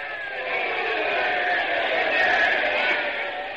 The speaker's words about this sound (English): Ladies and gentlemen, I see the St. Louis manager is up out of the dugout, and everyone is screaming and yelling.